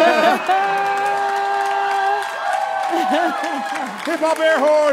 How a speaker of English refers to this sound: Hip hop air horn.